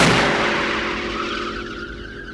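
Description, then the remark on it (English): A single loud, booming blast from a 20-foot-high metal hail cannon pointed at the sky, fired by a spark plug igniting natural gas, erupts at once, then rings and decays slowly with a metallic, resonant tail over a couple of seconds. No voices are heard. “A spark plug ignites the gas, sending a huge blast through a 20-foot-high metal cannon pointed at the sky.”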